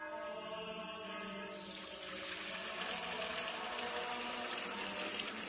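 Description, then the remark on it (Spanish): Water, Fuente Umbría pure spring water in an advertisement, runs steadily in a continuous splashing stream that brightens and grows fuller partway through, as if the flow opens up or the vessel fills. No voices. “Agua pura de manantial Fuente Umbría.”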